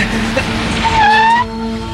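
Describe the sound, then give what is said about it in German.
A car with two people inside rolls up with a low engine rumble, then its brakes let out a shrill squeal for about half a second as it comes to a stop. No one speaks. “Vorsicht! Ein Auto runter!”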